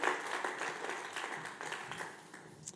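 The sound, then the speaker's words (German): An audience applauds steadily, many hands clapping in a dense crackle that stays fairly even before tapering slightly, with no voices over it. “Kommt doch mal für einen Applaus für Simon und Andrea.”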